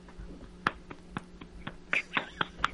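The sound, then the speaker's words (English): Ginger Banks claps her buttocks together in a run of about nine sharp, fleshy slapping claps, coming in an uneven rhythm of moderate loudness with no talking. “Ginger Bank made her ass clap, and you missed it.”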